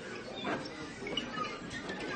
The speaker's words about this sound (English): The floors are called nightingale floors because they make a chirping sound when walked upon. They were used as a security device.